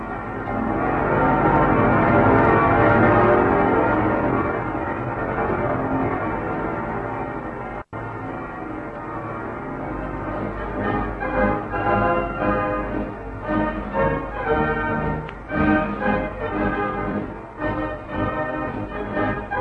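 Several church bells of a city peal together from all its towers, a dense, continuous clangour of overlapping strokes that fills the air, with a momentary break partway through and no voices.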